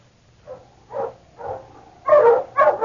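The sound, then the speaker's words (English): A dog barks five times in a steady, evenly spaced rhythm. The first barks are moderate and the last two are louder, over a faint low hum. “Shut up, you yapper, no good, huh? Shut up, I'm telling you.”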